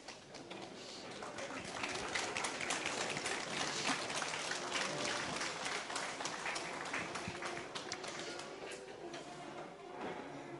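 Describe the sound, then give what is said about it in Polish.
Steady applause from an audience, many hands clapping in a dense, crackling wash that holds at an even level for the whole stretch, with no voices rising above it. “Zachowajcie te brawa dla siebie kiedy coś się w waszym życiu zmieni.”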